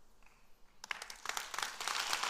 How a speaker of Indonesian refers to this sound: Ya pendeta sih kalau jemaat tepuk tangan senang, cuma bertobatnya aja.